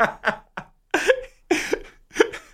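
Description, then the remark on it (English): A long coughing fit on air during a sports talk show: about six harsh, breathy bursts in an uneven run, some ending in a raspy, voiced catch, with brief gasps between them. “Oh, that was a long cough that you had there.”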